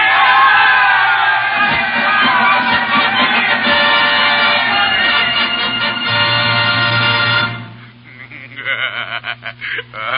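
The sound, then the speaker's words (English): A loud crowd roars and cheers in victory after fighting alongside the regulars and driving the British back from the city's line of defense, many voices shouting and whooping together for about seven seconds before the din breaks up into scattered, fading yells. “Into the city they poured, up to the line of defense, to fight side by side with the regulars, repulsing every advance made by the British, driving them back inch by inch, until at last came the welcome cry. Victory!”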